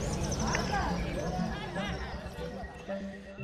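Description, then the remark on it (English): A sacred cow's hooves clop in an uneven walking rhythm, moderately loud, over a dense background of murmuring voices and general bustle. “a day in the life of a sacred cow.”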